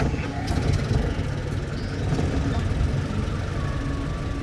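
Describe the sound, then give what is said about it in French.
The engine of a parked ambulance idles with a steady, low rumble, fairly loud, holding an even drone throughout with no other clear sounds above it. “Les moteurs de l'ambulance grondent.”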